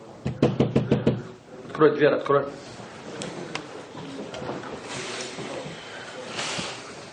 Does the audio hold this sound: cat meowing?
no